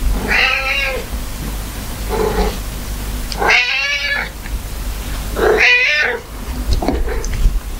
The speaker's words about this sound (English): Now, here's the same cat asking for attention, wanting to be picked up.